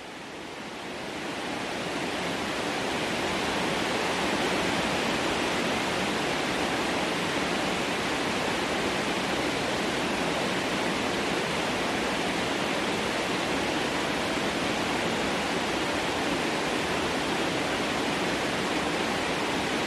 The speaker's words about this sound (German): Die Tatsache, dass das Magical Relaxation Noise ein sehr breitbandiges Signal ist, macht es prädestiniert dafür, um einerseits Störgeräusche zu überdecken und andererseits auch für Entspannung zu sorgen.